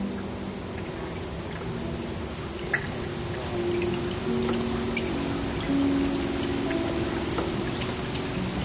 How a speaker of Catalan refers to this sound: És una pel·lícula de l'any 97 de l'Alexander Sokurov. Sentíem la pluja.